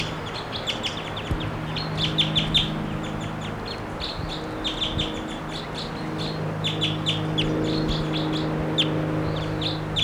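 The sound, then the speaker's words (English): A wild bird in a tree right above a camp calls with quick, high-pitched chirps repeated in bursts throughout, moderately loud over a steady low hum, with no voices. “Wild bird.”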